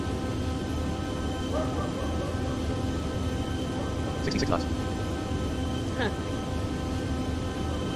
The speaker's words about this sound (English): Dog wants to be on the air. I can't believe that they would have had this dog now for 2 years. This year. We got him in 2017.